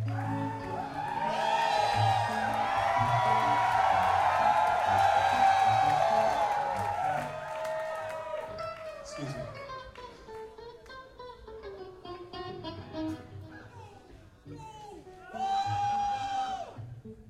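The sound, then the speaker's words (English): A live audience screams and cheers loudly for several seconds, the shrill voices gradually thinning out before a second burst of excited shrieks rises near the end. “It's nice when the audience actually screams.”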